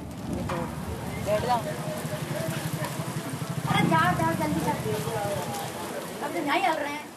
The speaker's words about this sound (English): In Bundi, rain cools the hot asphalt. People seek shelter under the tea stands and the awnings of houses.